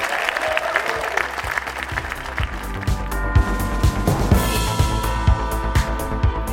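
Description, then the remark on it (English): A theatre audience at the Duchess Theatre applauds after an interview with Jake Berry, in a loud, sustained wash of dense overlapping claps, holding steady for several seconds with a few sharper claps standing out and no one speaking. “But ladies and gentlemen, a round of applause to everyone at the Duchess Theatre and Avalon for making tonight possible.”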